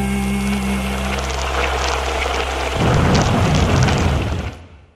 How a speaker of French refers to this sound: Qu'on est bien ici, écoute la pluie, le chant de la pluie.